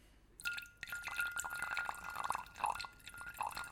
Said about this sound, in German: Kein Stress, ich gieße einfach vorm Mikrofon noch ein bisschen Rotwein nach.